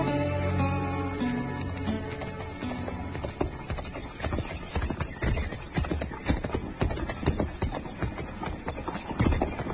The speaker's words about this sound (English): Hey, Tipple, move that horse you're in over so I can get mine in there. This hitch rack's pretty crowded, Ferris.